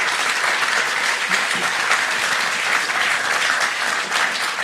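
Sustained applause from an audience for the speaker's wife, a dense, steady clatter of many hands clapping at once, loud and even throughout with no voices rising above it.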